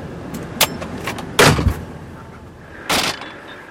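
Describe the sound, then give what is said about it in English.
A car rumbles low and brakes to a halt halfway up a mountain road, where a washout has eaten away the soil under a small bridge, then its door clunks open with a rattling thump and a brief swishing sound near the end, fairly loud. “Halfway up a mountain, Mole hits the brakes.”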